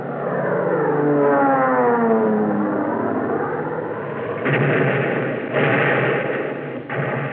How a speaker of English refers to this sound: Japanese fighter planes roared in to break up the Allied attack.